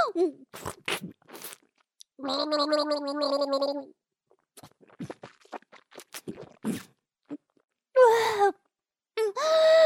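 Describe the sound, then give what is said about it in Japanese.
Crushed cup pudding is swished and gurgled around a mouth in one loud, bubbly burst lasting under two seconds, surrounded by short wet smacks, breaths and a few later gurgling bursts. “潰れたプリンでお口の中ぐるぐる。”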